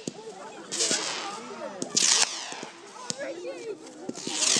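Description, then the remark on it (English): Small fireworks going off across the sky pop and hiss in several short bursts, sharp cracks with a whistling fizz trailing off, heard under people talking. “They make a funny noise. Right across the sky, those fireworks.”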